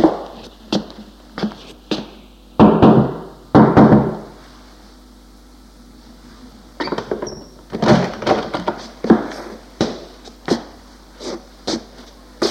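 Sharp knocks on the wooden door of the concierge of an apartment building come in irregular clusters, fairly loud, mixed with a few heavier thuds and a quiet pause midway. No one speaks.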